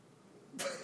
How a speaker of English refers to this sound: Was that your iPhone app? No. Awkward cough. Cough.